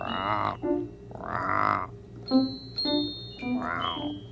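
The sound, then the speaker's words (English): A child's voice imitates a growl in several raspy, croaking bursts, uneven in length with short pauses between, fairly loud, with a few thin high tones between them. “You want to try growling again?”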